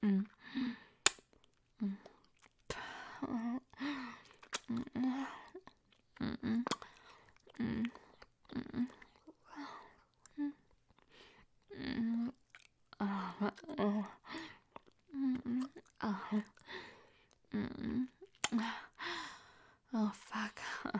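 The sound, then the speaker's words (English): Wet mouth sounds: repeated spitting and slurping of saliva in irregular bursts, mixed with breathy gasps and soft whispered breaths, as a woman spits on a penis and slurps the saliva back up. “Me spitting on that cock, and then slurping it back up.”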